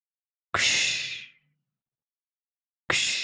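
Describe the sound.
A voice imitates light lake waves with two breathy, hissing whooshes, the first swelling and fading over about a second, the second starting after a pause; soft noisy texture, no words.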